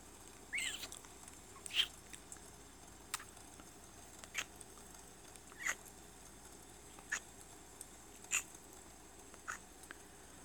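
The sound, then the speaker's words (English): Rain patters as sparse, irregular drips tapping a surface, roughly one sharp tap per second over a soft, steady background hiss, with no voices. “Every time it rains like this, every time there's thunder”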